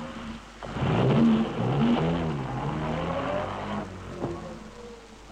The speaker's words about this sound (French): Et oui, dans le bas de combat, les hommes courent, sautent dans des voitures qui démarrent, à fond train.